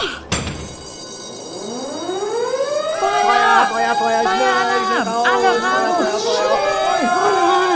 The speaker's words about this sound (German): Feuer! Die Kuh da hat den Alarm ausgelöst.